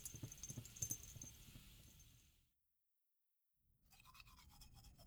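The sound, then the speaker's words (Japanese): Steady scrubbing of a toothbrush against teeth at a washbasin after a bath, brisk and bristly, pausing into a second of silence before the brushing resumes. No one speaks. “今は洗面台で歯磨きをしています。”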